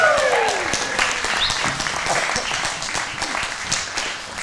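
Steady audience applause fills the whole stretch, a dense wash of many hands clapping at an even loudness, with a few brief cheers or voices poking through at the start.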